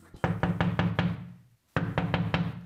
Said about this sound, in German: etwas schneller anklopfen.